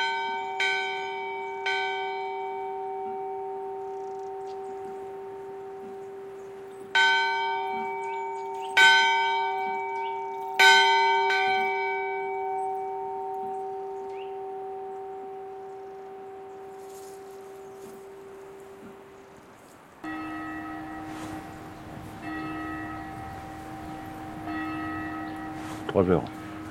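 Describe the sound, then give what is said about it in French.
A bell rings out with several clear strikes, each leaving a long, shimmering hum that lingers between them; near the end a second, deeper-toned bell takes over and rings steadily. “Ça, c'est pas possible qu'avec des vents à plus de 100 à l'heure, entendre une cloche.”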